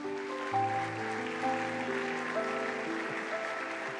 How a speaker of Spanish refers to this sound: ¿Cuántos dicen amén? Dar un aplauso a Jesús.